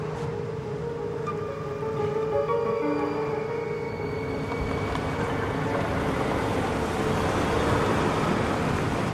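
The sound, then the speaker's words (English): A car drives along with a steady engine drone and constant road rumble, a few humming tones rising and shifting in pitch, getting slightly louder after the first couple of seconds. “Tell me now or stop the car.”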